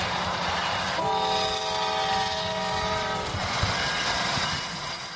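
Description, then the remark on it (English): A working model railway train rumbles steadily along the track while a long, sustained horn blast sounds for a couple of seconds over the running noise, with no voices present. “Believe it or not, those are the sounds of a working model railway.”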